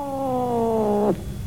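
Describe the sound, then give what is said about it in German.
A single long, drawn-out meow from a black cat named Nostradamus, greeting someone, loud, holding a steady pitch before sliding sharply downward at the end. No one speaks. “Nostradamus, ihre schwarze Katze, begrüßte mich.”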